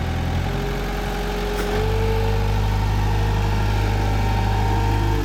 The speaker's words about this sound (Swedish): Och när man står så här utomhus, då kan man bli avbruten lite grann så där av en traktor i det här fallet.